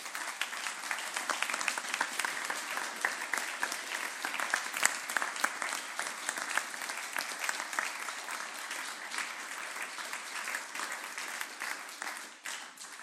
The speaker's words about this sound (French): C'est son dernier culte officiel de louange, donc on peut l'applaudir.